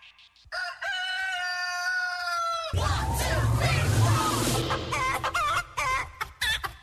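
A rooster lets out a long, loud crow, then a burst of busy chicken clucking and squawking follows, with a low rumble of background noise underneath.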